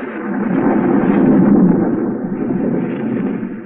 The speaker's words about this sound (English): A storm rages wildly over the countryside.